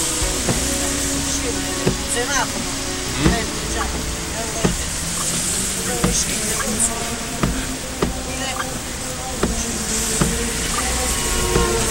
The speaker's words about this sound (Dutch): Twee dingen zijn op deze Italiaanse namiddag anders dan het me in de reisfolders was beloofd. De regen komt met bakken naar beneden